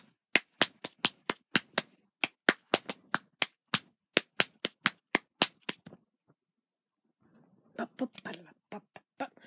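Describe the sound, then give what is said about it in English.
Sharp, crisp hand claps and taps in a quick, steady rhythmic pattern, one person clapping along to a song while holding a recorder, about twenty hits over six seconds, then a pause before a voice starts. “The first version is just a straight song, and then the second version includes some of me doing the clapping that goes along with it.”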